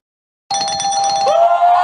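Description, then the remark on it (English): A truck's reversing beeper sounds as a loud, steady high-pitched electronic tone with a faint pulsing edge. Its pitch wavers slightly toward the end, and no one speaks. “The truck's backing up because they're hearing us.”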